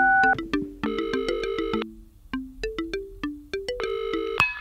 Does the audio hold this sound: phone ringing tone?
yes